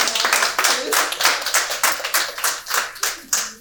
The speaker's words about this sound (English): So, give the Lord a hand clap tonight.